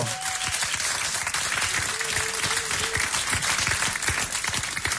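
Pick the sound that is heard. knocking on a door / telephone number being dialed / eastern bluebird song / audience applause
audience applause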